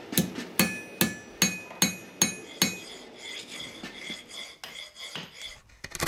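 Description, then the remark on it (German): Sharp metallic hammer blows ring out as silver is forged into spoons the old-fashioned way, about seven strikes in a steady rhythm with bright ringing tones, then lighter, irregular tapping and clinks follow. “Jeg laver smykker, og så smier jeg skjeer fra den på den gammeldagse måten.”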